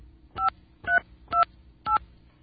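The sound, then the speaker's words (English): Four telephone keypad tones beep as a phone number is dialed, in an even rhythm, about two per second, each a short, steady two-note electronic chirp, with no talking over them. “Some of you might be able to make out the phone number I'm calling.”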